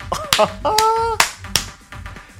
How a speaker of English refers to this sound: Oh, you like that ass? Go ahead. I know you want to slap it. Let's see it.